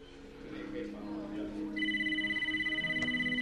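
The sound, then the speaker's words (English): A phone rings on an outgoing cell phone call with a steady, warbling electronic tone that starts partway through and continues to the end, loud, following a brief stretch of muffled background sound. “She dials a number on her cell phone and contacts Chloe”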